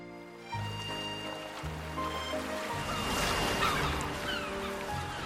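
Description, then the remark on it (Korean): Ocean waves wash steadily onto a beach in the Seychelles in the early morning, in a continuous rushing roar that swells in the middle, with sustained low tones droning underneath and no voices. “이른 아침, 눈을 뜨자마자 무언가에 이끌리듯 파도 소리를 따라 바닷가로 향했다.”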